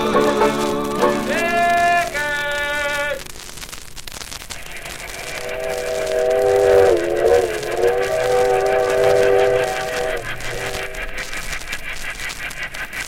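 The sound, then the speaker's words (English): A train rumbles steadily along the tracks, its whistle sounding in short bursts early on and then a longer wavering blast, fairly loud with no voices. “The train to the zoo speeds along the tracks, past farms and towns, over bridges and through tunnels, and then...”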